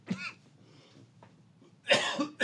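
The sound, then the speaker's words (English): A person with allergies acting up coughs repeatedly: a short cough at the start, a pause, then a harsher burst of two or three coughs close together near the end, loud. “Get started talking, and I get to coughing.”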